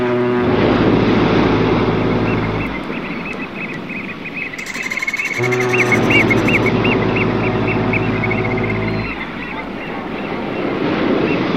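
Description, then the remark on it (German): Continuous sea ambience, a broad wash of water over a deep, steady droning hum, with a faint warbling tone drifting above and a brief hissy burst midway. “Unsere Geschichte soll dort beginnen und enden, wo alles Leben begann. Im Meer.”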